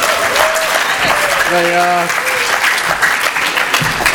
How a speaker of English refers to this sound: let's give our song leaders a round of applause.